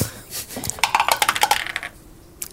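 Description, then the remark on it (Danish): A die rolled for a perception check, landing on 17, clatters across a hard tabletop in a quick burst of sharp clicks that tumble and settle within about a second, followed by near silence. “Ja, prøv lige at slå med den perception.”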